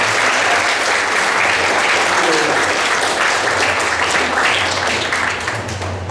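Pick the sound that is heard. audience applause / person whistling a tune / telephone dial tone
audience applause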